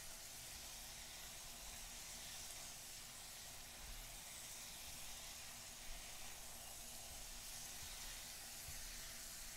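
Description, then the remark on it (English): Toast sizzles steadily in a pan, a soft, continuous crackling hiss that holds at an even level throughout with no pauses and no voices. “toast is just sizzling away.”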